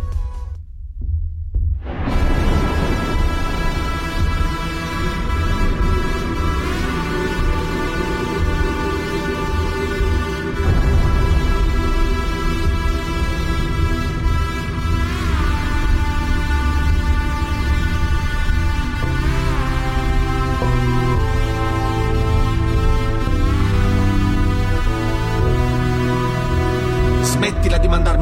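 An Italian rap song intro is broadcast on air at the director's request, loud and steady, with a deep thumping bass beat under layered sustained synth tones that shift every few seconds. No vocals come in yet.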